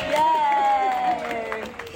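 A brief round of applause with cheering: scattered claps under a sustained, wavering high whoop, fairly loud and lasting about two seconds.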